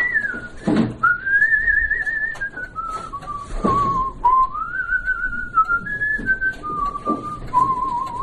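A man whistles a slow melody up close, a clear single tone gliding between sustained notes with few breaks, over a faint background rumble and no talking.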